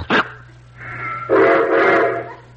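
A toy electric train covered with lemon meringue clicks on and hums steadily as its engine starts, then gives a shrill two-toned whistle that swells louder and holds for about a second before fading. No voices.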